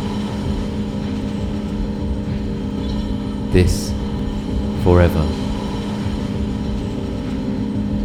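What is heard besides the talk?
train passing on rails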